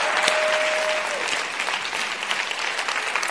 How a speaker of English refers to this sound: Let's just give him another clap offering.